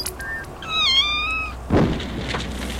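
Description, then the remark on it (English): A sound effect programmed on a resonator: a kitten lets out a single drawn-out, wavering yowl lasting about a second, clear, followed by a dull thump and some rustling noise. “Perhaps the sound of a kitten on fire.”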